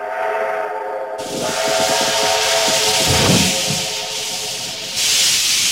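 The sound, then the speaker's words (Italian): An antique steam train's whistle holds a steady tone while a loud, rushing hiss of steam bursts in after a second and fills the rest, with rhythmic chuffing low underneath. “E adesso invece arriva il treno. Lo senti? Questo treno a vapore antico.”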